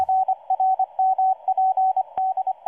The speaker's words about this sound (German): Die Journalistinnen und Journalisten haben mit Dutzenden vertraulichen Quellen gesprochen, Satellitenbilder ausgewertet und mehr als 1000 Morsenachrichten russischer Forschungsschiffe entschlüsselt und ausgewertet.